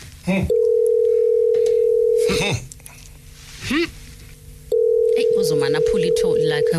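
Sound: telephone dial tone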